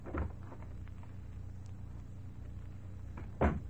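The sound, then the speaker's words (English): A door opening, introducing the series The Key: a short wooden thump at the start, a few seconds of low steady rumble, then a second, heavier thud near the end. No one speaks. “And the opening of this door introduces us to another in the series, The Key.”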